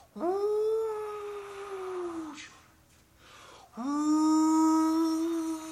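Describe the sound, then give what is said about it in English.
A voice imitates the howling wind: two long, sustained wailing tones, each swooping up then sliding slowly down in pitch, separated by a brief breathy pause. “She's blowing all over the world looking for her children. She's calling them.”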